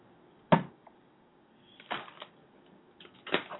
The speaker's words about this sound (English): All right, we shuffled. We shuffled. We just got done shuffling. Okay. Now, tell me when you want to cut the deck.